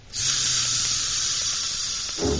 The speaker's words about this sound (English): A clockwork train. I'll make that go.